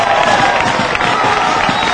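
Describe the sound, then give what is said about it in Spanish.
Around 300 travelling Recre football fans cheer and applaud together on a hot day as the team comes to their corner to greet them, a dense, steady roar of crowd noise with clapping mixed in, loud and continuous throughout without any clear pauses. “Aplauden.”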